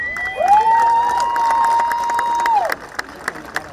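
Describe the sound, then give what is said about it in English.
A massive crowd gathered to witness the Walk of Peace in Columbia cheers and applauds loudly, with a long sustained whoop or tone riding over the noise before trailing off into scattered claps and shouts. “That gratitude also coming from the massive crowd that came to witness the peace movement heard around the world.”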